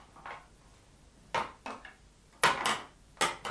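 A door being locked: a handful of sharp metallic clicks and clunks at uneven intervals, the later ones louder and rattling briefly, with no voices.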